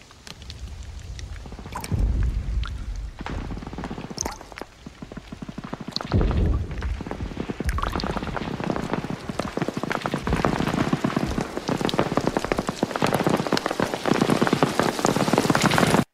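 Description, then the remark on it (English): A sound montage: steady rain patters densely on leaves, swelling louder after the opening seconds, with occasional sharp, heavy impacts cracking through the downpour as the falling water turns into bullets. No voices. “There's this really interesting sound montage that you hear as the men are walking through France where you hear water start to fall on leaves right.”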